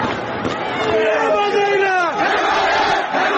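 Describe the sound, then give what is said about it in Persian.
A crowd of protesters in Mahabad shouts and chants together, calling for support, in a dense, continuous roar, with a few voices rising in pitch and falling above the mass of noise throughout. “این فریاد حمایت طلبی مردم مهاباد.”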